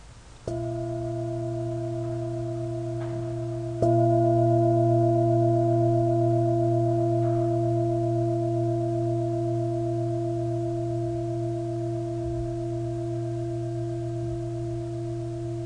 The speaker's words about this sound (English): In a moment I'll ring the bell, but really feeling encouraged just to stay in any cultivated space. You don't need to rush out just because the bell rings.